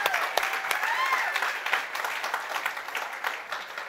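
A crowd bursts into a steady round of applause, dense overlapping claps at a fairly loud, even level, with faint cheering voices mixed in and the clapping thinning slightly toward the end.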